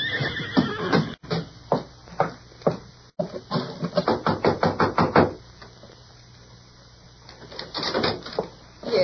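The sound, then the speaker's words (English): A horse whinnies loudly, a long fluttering neigh with rapid pulsing bursts lasting several seconds, then fades to quiet background with faint shuffling. “Can my friends and I get some water for our horses?”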